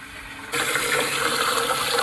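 household object, water running

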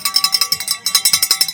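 bell ringing

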